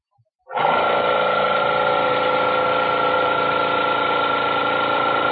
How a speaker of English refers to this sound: That's him back there with a spray gun, isn't it?